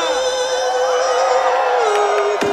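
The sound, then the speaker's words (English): A concert crowd in Mexico shouts loudly together in one sustained, high-pitched roar of many voices lasting the whole stretch, easing slightly in pitch toward the end with a brief sharp burst near the close. “And let's wake up the fucking neighborhood one more time as loud as you can.”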